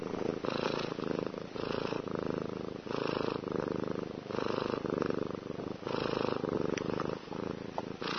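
A cat purring, a steady rumbling that swells and eases in a regular rhythm with each breath, about eight cycles, with no voices or other sounds.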